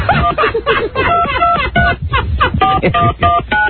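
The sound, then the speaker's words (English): A phone number is dialed on a touch-tone keypad to call Larry Bird's Boston Connection, a restaurant and hotel: a quick run of about eight short, steady beeps in different pitches, with murmured voices underneath. “All right, we're calling Larry Bird's Boston Connection.”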